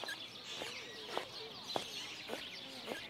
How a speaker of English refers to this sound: Did you just hear what I heard? That woman has squeaky shoes.